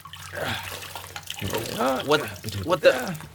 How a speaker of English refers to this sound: And let's pour this dead alien juice all over the floor.